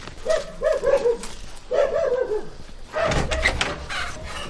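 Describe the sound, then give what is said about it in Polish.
Fierce dogs bark in quick, overlapping bursts, a few yelps in a row, then a pause and another volley, followed by a noisier, rougher stretch of barking. “Boga, złe psy. No złe, ale będziemy uważać.”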